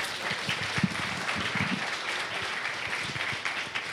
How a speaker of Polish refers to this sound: No i ja miałem powiedzieć brawa